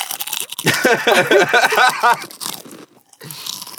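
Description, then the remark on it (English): Loud, crisp crunching of Better Made potato chips being chewed, a rapid run of crackly bites that briefly falls silent before softer chewing resumes, with no talking. “I got a chip in front of me, and it's on the table as dirty as that.”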